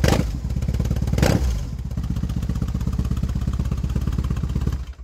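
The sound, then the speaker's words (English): A German motorcycle engine with non-stock aftermarket exhaust pipes idles with a deep, loud, rapidly pulsing exhaust rumble, a brief rev and clatter near the start, then a steady throbbing beat until it cuts off. “That's a pretty beefy sound for a German motorcycle, I would say.”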